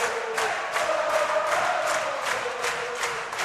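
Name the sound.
crowd cheering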